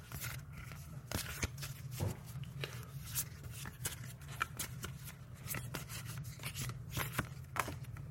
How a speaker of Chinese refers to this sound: 好，那我们抽一张签，60甲子签师，看换工作好不好。好，我们洗牌，让它随机掉一张，好，就是它了。